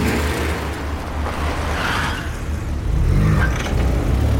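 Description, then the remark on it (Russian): A car engine rumbles, revving steadily as Ruti reverses the car and drives away, with a brief tire scuff and the low drone swelling toward the end. No voices. “Рути сдает назад и уезжает.”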